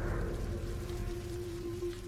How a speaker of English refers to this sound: Distant sounds of rain patter onto the tent as I slowly awaken from my sleep.